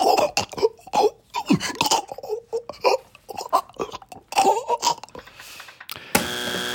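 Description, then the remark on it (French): A person coughs and chokes on bread swallowed the wrong way, in a rapid, strained series of harsh hacks and gasping, throaty vocal sounds, loud and uneven. It ends in a stretch of hiss and a brief buzzy tone. “Je vais vous faire écouter le son de quelqu'un qui est en train de décéder parce qu'il a avalé du pain de travers.”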